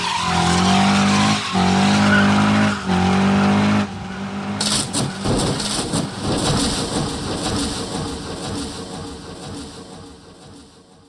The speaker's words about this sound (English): And if you think it's fun watching two football players run into each other head first at 20 miles an hour, how about 20 cars crashing into each other at 180?